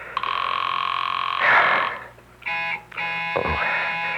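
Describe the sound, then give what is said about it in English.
A telephone rings on and on with nobody picking up: a loud, buzzy, steady ring that breaks off briefly and starts again several times, with no voices. “Come on, come on. Will you answer the phone?”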